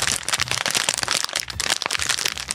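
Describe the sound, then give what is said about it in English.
Dense, continuous crackling and crinkling, like plastic snack packaging being handled and squeezed, with sharp bright bursts packed closely together over a couple of seconds and no voices. “Sounds like plastic. It is, I guess, plastic.”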